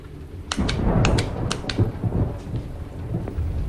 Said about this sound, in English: With the light still out, he peers through the window blinds at the rain pouring down outside.